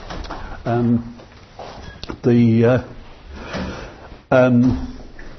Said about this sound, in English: that door's been left open outside and is slamming.